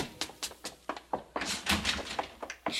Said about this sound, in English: haven't I told you not to slam the door?